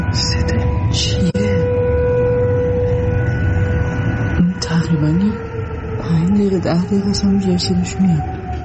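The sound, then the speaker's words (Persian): A wailing air raid warning siren (red alert siren) drones steadily in parts of Tehran, its pitch rising and falling. Voices murmur underneath. “خب، به صدا در آمدن آژیر قرمز در بخشای از تهران در شبکه‌های اجتماعی هم بازتاب گسترده‌ای داشته.”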